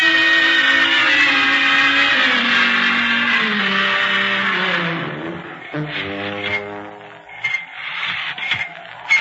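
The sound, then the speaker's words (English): A car horn blares loudly and continuously, its tone sagging lower over several seconds before breaking into shorter, uneven honks near the end. “Oh, listen, that's him. That's his horn.”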